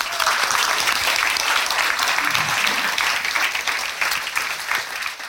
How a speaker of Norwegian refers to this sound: Gi en stor applaus til mannen som har dratt dit for oss, dykker og forfatter Ronny Arnesen.